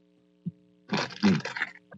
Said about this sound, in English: And I'm trying to find a box score from last night's game, so don't bite into your chips so much because your chips crunching across the radio and that don't sound too good.